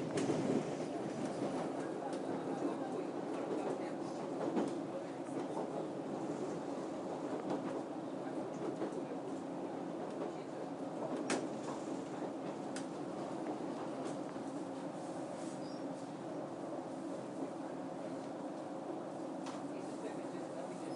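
Steady rumble of a commuter train bound for London Waterloo, running along the rails on the route through Twickenham toward Richmond, heard from inside a carriage, with a continuous low roar, faint rattles and occasional sharper clicks throughout.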